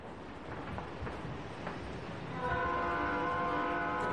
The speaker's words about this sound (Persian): در ایستگاه راه آهنی قدیمی نشستم. ایستگاه را به سبکی امروزی رنگ زدند.